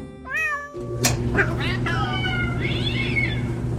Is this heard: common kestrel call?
no